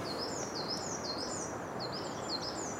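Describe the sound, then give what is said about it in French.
A crested tit flying overhead gives a high, thin trilling call, a run of quick repeated notes heard over a steady hiss of outdoor background noise, moderately faint and unaccompanied by voices. “Mésanges jupées qui chantent un petit peu comme une bille qui rebondirait vite sur du carrelage.”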